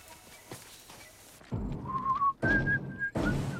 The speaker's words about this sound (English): Brains sits in Jeff's office whistling and trying to read a magazine which he's holding upside down.